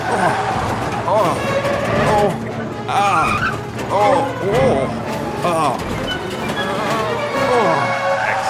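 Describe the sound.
A voice imitates truck and car sound effects for a scene of someone underneath a truck making his way to the exhaust pipe, with revving engine drones, rising and falling pitch sweeps and skid-like squeals, steady in loudness.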